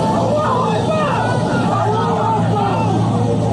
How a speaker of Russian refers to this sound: В конце октября 2023 года в аэропорт Махачкалы ворвалась разъяренная толпа с палестинскими флагами. Люди искали в аэропорту беженцев из Израиля и пытались атаковать пассажиров рейса из Тель-Авива.